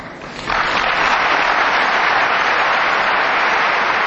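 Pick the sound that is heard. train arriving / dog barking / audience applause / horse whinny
audience applause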